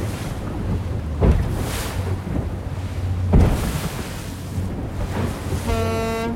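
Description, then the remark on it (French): Wind buffets the microphone over lapping water and a low boat hum as the boat leaves the port of Cabreton above the Gouffre, an undersea canyon, then a single clear seagull cry rings out near the end. “Et puis les mouettes.”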